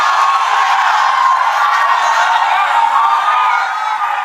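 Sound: audience shouting in unison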